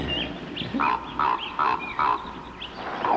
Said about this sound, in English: And the raven croaks from the old yew tree.